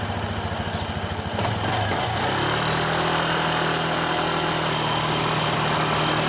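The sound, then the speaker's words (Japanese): The engine of a small Yamaha leaning multi-wheel moped in the 125cc class, with two front wheels, runs steadily, its buzzing idle shifting in pitch early on before settling into an even, continuous drone, with no voices. “今日はヤマハ組の川上葵さん、遠山陽子さんと合同ツーリング、そしてなんだか変わった原付2種で登場です。”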